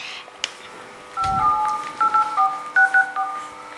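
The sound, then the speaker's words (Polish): A rapid run of about eight to ten two-tone touch-tone beeps of a phone number being dialed as a radio station calls a listener for a contest, short and evenly spaced, preceded by a click and a soft low thump. “Dobrze, teraz dzwonimy do następnego słuchacza.”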